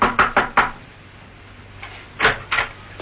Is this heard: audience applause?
no